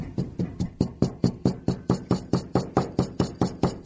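A glass holding rice and a bouncy ball is banged on a table over and over at a steady, brisk rhythm, about four knocks a second, each a sharp, solid thud with a brief ringing edge. No one speaks.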